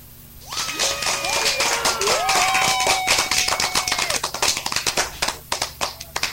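A lively burst of hand clapping, loud, with whooping voices and whistles over the first few seconds before it thins out into scattered individual claps, given to welcome a caller on the air.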